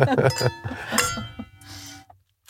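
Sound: wine glasses clinking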